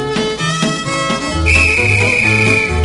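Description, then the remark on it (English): A single long, steady whistle blast, blown to signal dancers in a circle dance to change partners, sounds midway through, held for over a second above lively dance music playing throughout. “You hear the whistle once again.”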